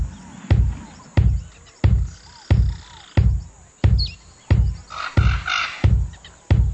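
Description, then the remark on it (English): Music from the Xbox Live Arcade game Totem Ball, built on a loud, steady booming beat, roughly one thump every two-thirds of a second, with bird chirps and calls twittering over it and no voices. “Was it the bird that gave it away, or was it the boom, boom, boom?”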